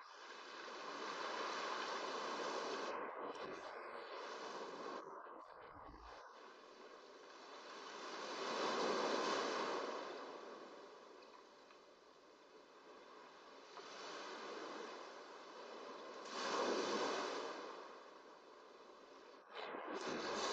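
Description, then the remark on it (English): Ocean surf washes steadily onto shore, with broad hissing swells rising and receding every several seconds, with no voices. “It synchronizes with the ebb and flow of the surf.”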